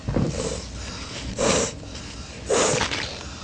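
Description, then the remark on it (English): Two short, wet sniffles from a runny nose, about a second apart, fairly loud against faint background noise, with a softer snuffly breath at the start. “Oh, see, runny nose again.”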